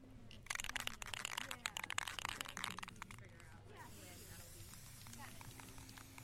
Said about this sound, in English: You're spraying a cardboard sign over here. Can you talk about what you're spraying? Yeah, so we're prepping for the March 6th march on Hudson for missing and murdered Indigenous women, trans Two-Spirit people, and all of our relatives.